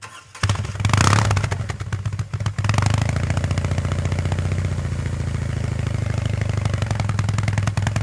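A hand-built BMW Motorrad Concept R18 boxer motorcycle engine at the Concorso cranks briefly and catches with a loud burst. It then settles into a steady, deep, rhythmic idle with a low chugging pulse.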